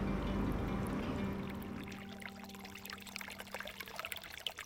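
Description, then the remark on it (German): A babbling brook beside reeds on the shore of the Simsee lake trickles and splashes steadily, with a low hum fading out over the first couple of seconds while the bubbling water carries on alone. “Umgeben vom Schilf auf der einen und dem plätschernden Bach auf der anderen Seite sitzen wir am Ufer des Simsees und schauen aufs Wasser.”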